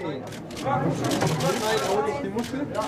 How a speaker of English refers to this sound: Video of this is totally ridiculous. It's the clicking of camera shutters, the excited murmur of the gathered media, as an octopus slowly flops into a plastic box.